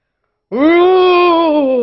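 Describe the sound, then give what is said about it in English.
A person telling the story of the lion and the mouse imitates the roar of the lion caught in a trap: one loud, drawn-out vocal cry that rises briefly, holds a steady mid pitch, then sags slightly at the end, following a short silence. “The next day the mouse is walking in the jungle and he hears a roar.”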